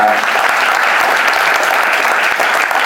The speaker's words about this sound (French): On peut applaudir Pilou Mokelel.